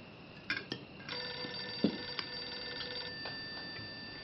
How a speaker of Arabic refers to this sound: أجيبي على الهاتف.